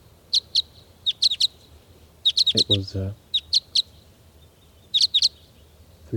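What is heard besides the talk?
birds calling excitedly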